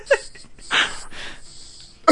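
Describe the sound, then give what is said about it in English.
Two airy whooshes of breath forced out through one nostril, a little wheezy and hissing, with brief voice fragments at the very start and end. “I'm on the breathing out of one.”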